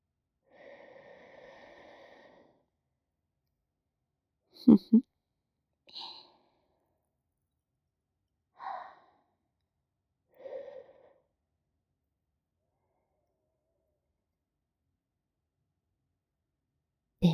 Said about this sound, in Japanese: 左のお耳はいかがでしょう？こちらも優秀なのでしょうか。私の吐息と声を、ご主人様のお耳で受け止めてください。